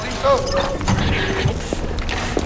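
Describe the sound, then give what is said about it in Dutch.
Footsteps of people walking toward a chapel inside a prison compound, a few irregular hard steps on a solid surface with faint background voices and ambient noise. “En we lopen nu richting kapel.”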